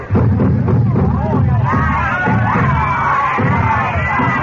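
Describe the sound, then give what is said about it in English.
A dense, steady hubbub of many voices from a crowd gathering in a bazaar, overlapping chatter with occasional raised shouts and calls rising above the loud crowd murmur. “I don't like this crowd.”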